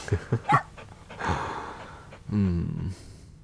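A female dog snorts and pants: three quick snuffling bursts, then a long breathy huff, ending with a short whining, throaty exhale.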